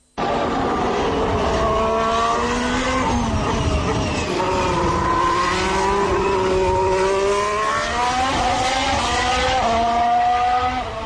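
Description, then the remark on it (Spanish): A high-revving Formula 1 car engine screams continuously on track, its pitch climbing and dipping through gear changes and throttle shifts, loud and sustained with no talking over it. “Sí, muchas revoluciones, mucha velocidad punta, buen agarre en curva rápida”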